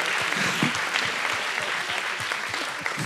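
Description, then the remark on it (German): A crowd applauds for all care workers, steadily, a dense wash of many hands clapping at an even, fairly loud level throughout, with no voices standing out. “Also komm, mal Riesenapplaus auch für alle Pflegekräfte.”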